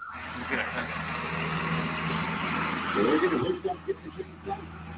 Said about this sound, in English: this is Greg hooking up to the sled. A Freightliner Classic 1998 model